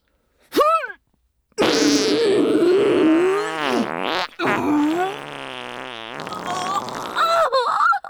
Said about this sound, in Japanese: 出た。悪魔もドン引きの超特急大放屁。ぶっこいちゃった。やっぱ溜まったガスを全力でぶっこくの最高。